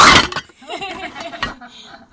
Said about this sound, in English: I wonder what that sounded like. That probably made you jump. So that was my phone just falling into a box of tomato cans.